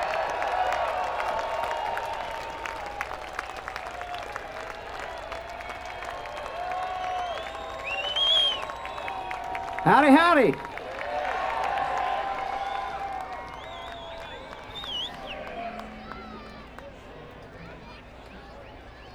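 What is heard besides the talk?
audience applauding and cheering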